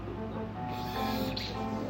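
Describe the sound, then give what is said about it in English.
A short, soft hiss of a saline nasal spray pump puffing once into a nose, against a steady low background hum. “There's your saline spray in your nose.”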